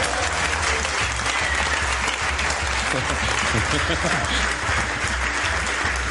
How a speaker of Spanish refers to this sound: Un aplauso para los cuatro.